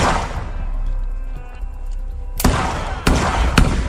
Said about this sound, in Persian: کاریشون ندارم، فقط شلیک میکنم. میخوام بهتون فرصت بدم. گلوله اول یعنی فرار کنید.